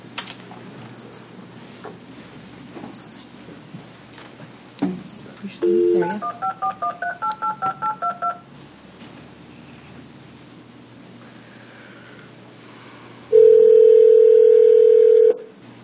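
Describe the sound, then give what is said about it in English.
A quick run of about nine touch-tone dialing beeps, followed after a pause by a steady, loud telephone ringing tone lasting a couple of seconds, over a faint room background. “Do you want me to get her on the phone while you're here?”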